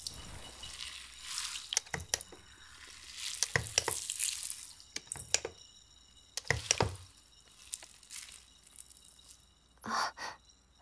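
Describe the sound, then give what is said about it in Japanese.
Crackling foam being worked up, with soft fizzing and wet squishes as more bubbles are stirred and added in irregular bursts, including a short gushing swish near the end; no one speaks. “泡足そうかな。泡は多い方が気持ちいいからね。”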